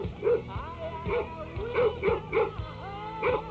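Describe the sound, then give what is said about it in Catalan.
A dog barks repeatedly in short bursts, roughly every half second, with a few higher yips mixed in, while people talk underneath. “Que calla el gos ja.”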